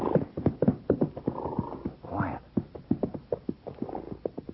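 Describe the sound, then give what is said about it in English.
A horse gallops fast, its hooves pounding in quick, uneven clusters of heavy thuds that keep up a steady driving rhythm. “I hear a horse, if that's what you mean. Riding fast.”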